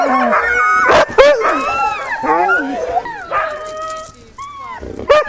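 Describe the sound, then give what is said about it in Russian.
A pack of sled dogs yips, whines and barks at once, loud, as they are being harnessed to sleds, with rising excited cries overlapping continuously and a few sharp barks punching through. “Нарты розданы, списки собак даны. Теперь нужно соединить нарты и собак.”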